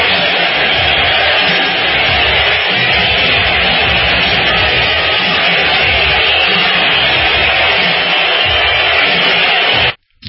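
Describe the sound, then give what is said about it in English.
A large crowd roars continuously with dense cheering and shouting as Trump enters, a loud, steady wash of voices that holds for about ten seconds before cutting off abruptly. “I don't hear a lot of boos in that crowd. I hear a lot of celebration.”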